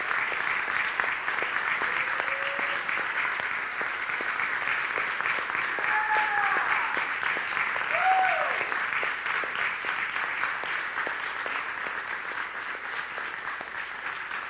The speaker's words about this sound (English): And I'd like you to stand with me and first applaud her, and then pray with me over her, and then we're going to dismiss. Would you do that? Okay, let's stand and just give a big applause to Kristen.